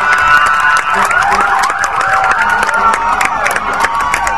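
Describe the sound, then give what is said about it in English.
Several fire engine sirens, from engines from Champaign to Cisna Park, wail over one another as they escort buses carrying soldiers past a waving crowd, their overlapping rising and falling tones sweeping continuously, fairly loud, with a crowd murmuring and traffic rumbling beneath. “Fire engines from as near as Champaign and as far as Cisna Park, two counties away, form part of the escort.”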